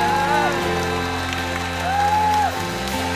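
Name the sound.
audience applause and cheering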